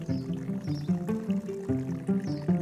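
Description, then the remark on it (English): Dagestan village herbal tea is poured steadily into a cup, a continuous gurgling trickle with shifting resonant tones across a couple of seconds, with no talking over it. “So, that's quite the pouring skill you have there, come on.”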